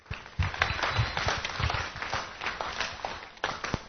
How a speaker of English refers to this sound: Let's give David a big hand of applause.